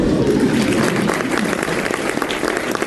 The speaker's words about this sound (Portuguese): É que os aplausos já estavam planejados no roteiro.